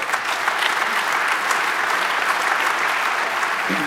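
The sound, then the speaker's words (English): Sustained audience applause, a dense, steady patter of many hands clapping at an even loudness throughout, with no voices standing out above it. “And I think that deserves a round of applause for these courts.”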